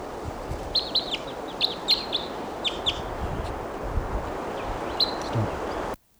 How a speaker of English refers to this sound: And meanwhile, here's another bird coming in. Little decoys there.